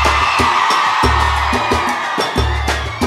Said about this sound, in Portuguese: negócio é o seguinte, eu quero ouvir o grito da mulherada primeiro.